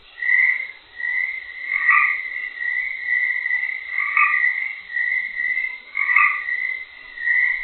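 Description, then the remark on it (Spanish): A chorus of Baja California chorus frogs croaking steadily, overlapping raspy calls repeating in bursts with a few louder croaks rising above the rest every couple of seconds. “Es la rana de coro baja californiana, que se distribuye desde la punta sur de la península de Baja California hasta el suroeste de Estados Unidos, rodeando la meca del cine en Hollywood”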